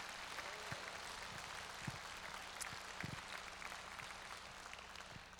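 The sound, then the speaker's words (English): A crowd in a church applauds steadily, a dense wash of many hands clapping at once with a few sharper claps standing out, sustained for several seconds. “Can you give a hand clap for all those who put this together for us today?”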